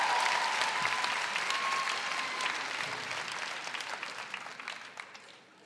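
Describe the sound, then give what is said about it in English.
A crowd applauds steadily for Sarah, the dense clapping at a fairly even level before gradually thinning and fading out near the end. A faint whistle-like tone rides over it briefly early on. “Big round of applause for Sarah.”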